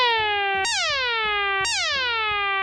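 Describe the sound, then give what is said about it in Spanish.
A sample alarm tone, the first of several alarm models played, repeats loudly in a steady cycle, each burst jumping sharply high and then sliding downward before restarting, about once per second. No one speaks over it. “Te traigo para que elijas tú qué alarma quieres que se escuche.”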